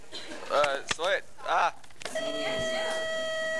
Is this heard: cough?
no